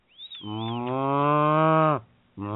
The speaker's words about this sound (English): and cow noise number 7. Just in case we need to keep some cow noises around. For any reason whatsoever.